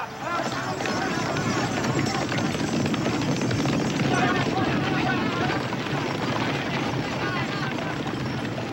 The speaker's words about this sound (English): It's a straight wooded pathway of 3 kilometers in length, which was famous for its horse races. The race is about to start. This time, the black horse on the left is going to win. Yeah!